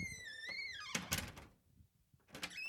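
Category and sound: household object, door opening and shutting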